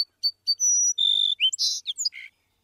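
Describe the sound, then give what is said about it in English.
A song sparrow sings one clear song: a couple of short introductory notes, a bright sustained trill, then a quick jumble of buzzy, varied notes, with silence around it. “If you visit one field with a few song sparrows, they often sound more like each other than a group of song sparrows living a few miles away.”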